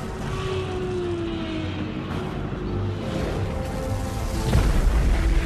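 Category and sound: sound effect, explosion sound effect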